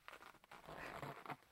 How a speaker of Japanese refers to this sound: ほら、服、全部脱いじゃおう。チャック下ろして